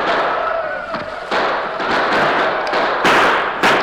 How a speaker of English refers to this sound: They rode in a large circle around the house and barn. Bullets came through the open windows on all sides. The darkness made accurate gunfire difficult, but several of the Indians were hit and sent sprawling to the ground.